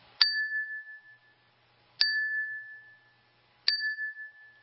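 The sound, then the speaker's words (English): A common clear-glass wine glass, not leaded crystal, is struck three times at even intervals, each tap giving a bright ding that rings briefly as a clear tone before fading; fairly loud, with no talking. “the first one will be just a common wine glass, the next with regular clear glass”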